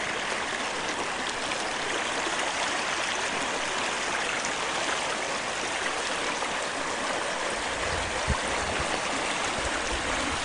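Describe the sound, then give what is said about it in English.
A creek with some ice in it flows steadily, its broad rushing babble continuous and even for the whole stretch, with a brief low thump near the end and no voices. “some ice in the creek.”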